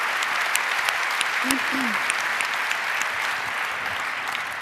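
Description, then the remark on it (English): Steady audience applause at the CCC Congress welcomes speakers to the stage, filling the whole stretch: a dense wash of many hands clapping at an even loudness, with a couple of brief vocal sounds rising faintly through it. “Please welcome, with a very, very warm hand applause, Spy vs.”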